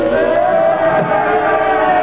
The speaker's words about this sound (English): Crowd, they're yelling something at